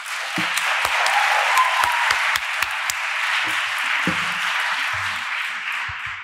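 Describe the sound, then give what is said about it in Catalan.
Steady applause from an audience welcoming a speaker before a presentation, a dense wash of many hands clapping at an even loudness for several seconds, with a few faint voices underneath. “Llavors, la presentació serà molt breu perquè ens interessa que pugui explicar el que s'ha preparat avui, però abans de començar crec que es mereix un aplaudiment, sisplau.”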